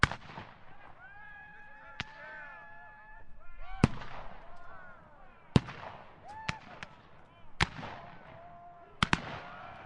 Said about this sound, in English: Imagine the sounds of cannons and muskets echoing through the mountains as soldiers bravely fought for their cause.